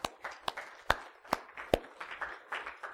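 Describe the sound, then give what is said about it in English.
Congregation applause in a worship service, given as a praise offering to God: a soft wash of scattered hand claps, with several sharp individual claps standing out at a steady, roughly half-second rhythm. No one speaks. “And I'm going to invite you just to applaud the Lord.”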